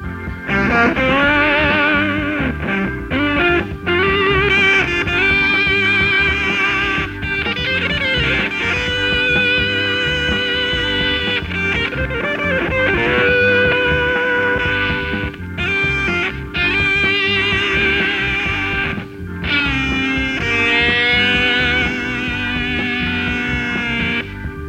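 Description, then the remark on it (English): A heavily fuzzed electric guitar plays continuously through a fuzz pedal whose tone switch changes the fuzz from mellow to hard to tube-type distortion. The sound is loud, its saturated tone buzzing with dense overtones and brief pauses between phrases. No one speaks. “For unheard-of versatility, the tone switch allows you to change the character of the fuzz from mellow to hard to tube-type ground distortion.”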